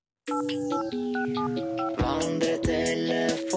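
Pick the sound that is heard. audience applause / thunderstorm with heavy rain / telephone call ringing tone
telephone call ringing tone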